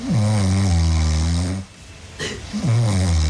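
A woman snores loudly in a bedroom in Zernsdorf, two long rumbling breaths with a raspy, buzzing drone separated by a quieter pause and a soft inhale.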